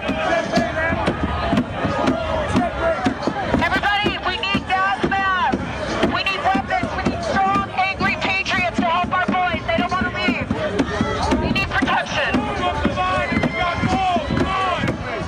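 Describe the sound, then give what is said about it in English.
A loud, dense mob at the Capitol building shouts and yells continuously while sharp, irregular thuds and bangs of the mob pounding on the building's windows cut through the roar throughout. “Another video shows her with a bullhorn, inspiring the crowd, calling for assistance as the mob pounds on the windows of the Capitol building.”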